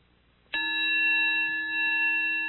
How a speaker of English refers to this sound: I think I'm going to ring the gong now as I tell you how it is, and you can just do it yourself, at least listen to it, and see how it goes for you wherever you are.